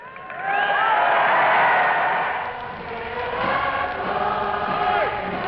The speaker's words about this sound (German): erklärte Churchill und dirigierte dann vom Balkon aus Land of Hope and Glory, einen vieltausendfachen Chor der jubelnden Menge.